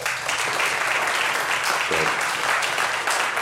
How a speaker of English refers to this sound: So I just want to give a round of applause